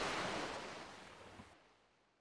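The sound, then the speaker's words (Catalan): A sea wave washes onto the shore with a broad, hissing rush that slowly recedes and fades, with no voices. “Anduve y anduve hasta no poder más para alcanzar el mar. Lo alcancé, soledad.”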